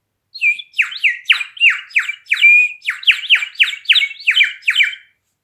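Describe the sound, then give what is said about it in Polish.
A 30-year-old clay rooster whistle trills in about a dozen quick, bubbling bursts, each a shrill warbling chirp, loud and steady for several seconds with no voices. “Kogucik ma już 30 lat i ciągle mi gwiżdże, a jego ton jest ciągle niezmienny.”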